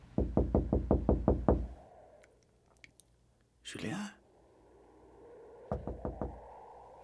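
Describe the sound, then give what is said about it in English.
A boss knocks on a janitor's door in a rapid series of about eight loud knocks, then a short spoken call, followed by a few more knocks in a quicker burst. “It is now hours later, and the janitor is awakened by the sound of his boss knocking on the door.”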